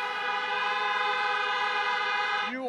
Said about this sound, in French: Du côté démocrate, pas de grand meeting. Un petit comité des supporters dans des voitures et des klaxons en guise d'applaudissements.